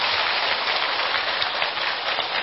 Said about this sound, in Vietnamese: Đồng thời đó thì để thực hiện bộ phim này đó, nó phải phát xuất từ ý tưởng của nhà làm phim, đó là nhà sản xuất Navin Gunaratna. Xin vị dành một tràng pháo tay.